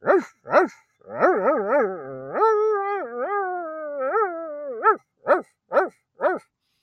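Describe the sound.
A person imitates a dog: two sharp barks, a long wavering howl-like vocalization, then four more evenly spaced barks, loud with no talking.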